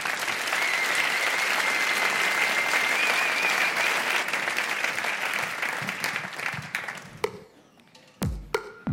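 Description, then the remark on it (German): An audience applauds a four-member author, rapper and musician group with dense, sustained clapping for several seconds, then the applause thins out into scattered individual claps as it fades toward the end. “Einen herzlichen Applaus für …!”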